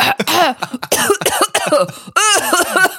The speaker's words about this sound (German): Ich huste einfach durchgehend die ganze Zeit, weil das für mich der absolute Blanko ist.